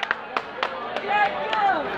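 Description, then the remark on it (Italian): A handful of sharp, scattered claps ring out over roughly two seconds while a voice carries on underneath with a faint murmur of other voices. “Ma va bene così, applaudite.”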